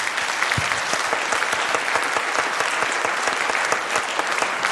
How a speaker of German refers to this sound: Okay, dann möchte ich noch einmal einen ganz lauten, großen Applaus bitte haben